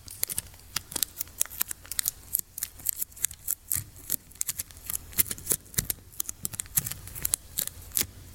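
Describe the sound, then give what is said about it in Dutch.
Adhesive tape crackles and rips in a rapid, irregular series of sharp snaps as it is pulled and torn, fairly loud, with short pauses between pulls and no one speaking. “Oké, laat ons anders eens de plakband proberen.”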